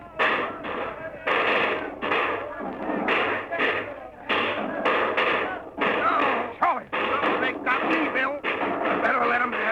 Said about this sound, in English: That's them. Get down behind your animals, men. We're going to shoot it out with them.